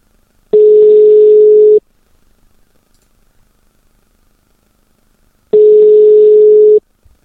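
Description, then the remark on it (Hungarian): An unanswered phone call to a reserve prize winner ringing out: two long, steady, mid-pitched ring tones with a few seconds of silence between them, no voices and no one picking up. “vedd már föl, kérlek a telefont.”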